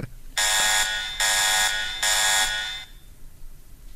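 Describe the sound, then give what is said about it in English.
An electronic alarm sounds in three loud, harsh, buzzing blasts, each lasting close to a second with short gaps between, then stops, leaving quiet background noise. “I set the alarm off. Sorry, everybody. 0 days since the last mention of Whitey Bulger.”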